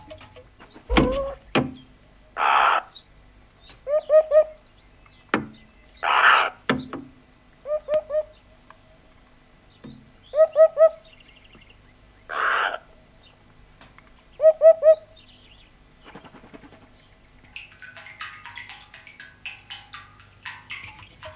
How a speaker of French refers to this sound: La huppe qui pique sur le micro.